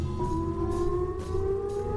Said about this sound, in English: It's almost like a nuclear raid sound, isn't it? That's how I knew that I Love Lucy was coming on when I was a kid.